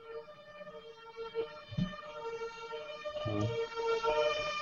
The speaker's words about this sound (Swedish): Oj, Nu kör du förbi en brandbil här faktiskt. Ja, där borta. Vilken action. Åker nästan förbi varje dag här. Brandkåren är bara lite längre bort på samma gata.